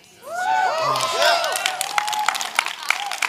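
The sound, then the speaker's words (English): A crowd bursts into applause with scattered cheers and whoops, rising voices arching over dense clapping that continues steadily throughout, loud. “No, you can clap, but you're going to be there.”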